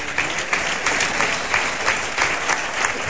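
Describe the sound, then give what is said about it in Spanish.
A bullring crowd gives a sustained ovation for the matador's attitude and effort, steady dense applause with rhythmic swells of clapping and cheering throughout, loud and continuous without any speech on top. “Bueno, pues la ovación, a las ganas, la actitud, ¿no?”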